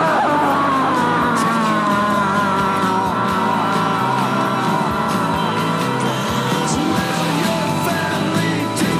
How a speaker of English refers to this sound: Meanwhile, in hell, George Walker Bush screams.